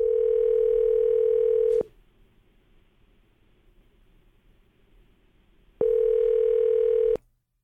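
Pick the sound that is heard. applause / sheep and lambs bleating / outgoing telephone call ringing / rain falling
outgoing telephone call ringing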